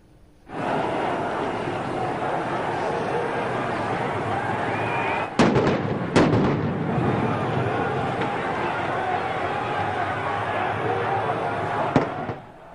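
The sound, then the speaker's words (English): A dense, roaring crowd of thousands of protesters clashes with riot police in front of the parliament in Greece, with a few sharp blasts cracking through around the middle and once near the end, as police fire tear gas and protesters throw stones, smoke bombs and Molotov cocktails. “Riot police fired tear gas into the crowd. Protesters responded by throwing stones, smoke bombs, and Molotov cocktails.”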